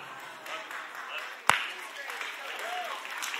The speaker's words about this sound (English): I'm worried because I pay you to clap and you're the only one clapping.